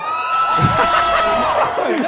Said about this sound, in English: That is the biggest cheer we've had all night.